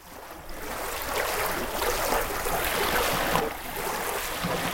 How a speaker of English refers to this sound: This week, those sounds from Virginia's York River State Park open our episode about a center of Native American civilization that existed along the York for hundreds of years before Virginia's first English settlement at Jamestown.